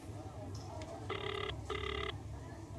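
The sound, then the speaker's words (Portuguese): Two short electronic ring tones sound in quick succession, the ringback of a call a man places to his wife on his mobile phone, over a low, steady background hum. “Ele suspira e arranja coragem para discar.”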